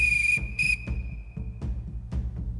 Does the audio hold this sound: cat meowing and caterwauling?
no